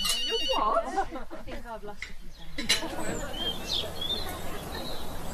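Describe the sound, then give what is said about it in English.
A telephone rings briefly early in the morning at breakfast time with a bright warbling tone, then muffled voices follow while birds chirp faintly in the background. “I'm not disturbing you ringing so early, am I?”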